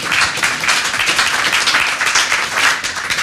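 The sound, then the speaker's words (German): An audience claps steadily for about three seconds, a dense, loud crackle of many hands with no voices over it, after the speaker invites them to clap. “Ja, da könnten Sie doch mal klatschen.”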